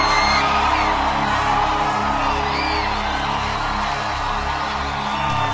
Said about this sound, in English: you're shouting for Jesus, make it bigger, make it higher.